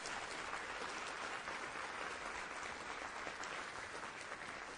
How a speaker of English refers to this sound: If y'all could give them a round of applause, I'd appreciate it.